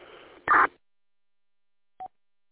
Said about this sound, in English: I was like, this ain't no packet beep. That's MDC 1200, man.